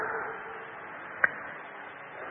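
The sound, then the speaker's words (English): One sharp, brief slap lands midway through, an imitation of a bloody sheepskin slapping on Adam's leg as he went down the path through the Garden of Eden. A steady hiss of background noise runs underneath, and no one speaks. “Bloody sheepskin slapping on Adam's leg as he went down.”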